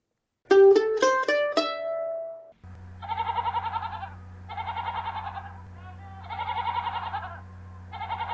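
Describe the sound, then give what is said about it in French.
A quick run of rising chime notes, then a goat bleats four times in wavering, quavering calls, fairly loud, over a steady low hum. “Il était une fois maman chèvre, toute blanche de la tête aux pieds.”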